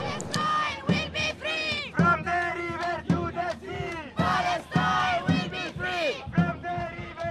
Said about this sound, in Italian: La partecipazione alla piazza della comunità palestinese si è fatta sentire con canti e cori, che urlavano con rabbia e dolore contro il genocidio del loro popolo.